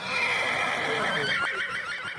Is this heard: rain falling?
no